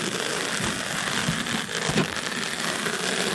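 Dense, steady crackling that blurs into a hiss much like white noise, with faint clicks and pops scattered through it at an even loudness and no voices.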